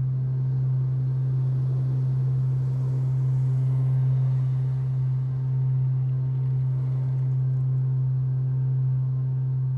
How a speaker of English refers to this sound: I was walking down 6th Street downtown one day, and as I passed the alley next to a parking garage, I was enveloped and entranced by this huge hum.